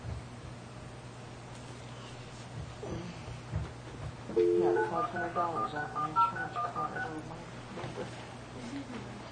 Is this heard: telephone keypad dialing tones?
yes